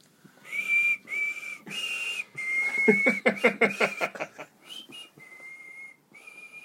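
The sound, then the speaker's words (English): Someone whistles God Save the Queen, a slow, stately melody, holding long clear notes in short phrases, briefly broken midway by a burst of breathy chuckling before the tune resumes. “I think you whistle God Save the Queen for a bit.”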